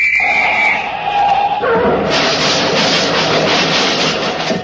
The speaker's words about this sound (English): I has me little traffic whistle with me. I'm going to blow it. Watch.